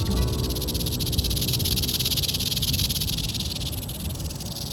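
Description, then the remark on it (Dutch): A rattlesnake's tail rattle buzzes continuously as it is shaken up to 100 times per second, its rings, made of the same material as hair and nails, ticking together; a dense, rapid, high-pitched hissing rasp that holds steady and loud for several seconds without pause. “En door ze supersnel heen en weer te schudden, soms wel 100 keer per seconde, tikken al die ringetjes tegen elkaar.”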